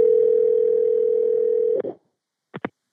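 A steady telephone dial tone hums for nearly two seconds, ends with a click, and is followed by two quick, close-together dialing beeps. No one speaks.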